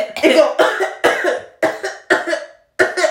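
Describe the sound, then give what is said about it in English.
A person imitates someone coughing into her shirt: about six harsh, abrupt coughs in quick succession with brief gaps, loud and slightly muffled, with no other talking. “Y'all, she proceeds to grab her shirt and cough in her shirt like this.”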